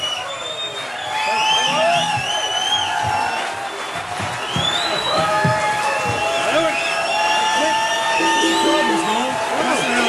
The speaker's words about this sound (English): Let's hear it. As you can tell, the crowd is screaming. Oh! For an encore.